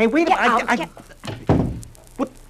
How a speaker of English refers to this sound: Yes, well, come on, let's get out of here. Close her door.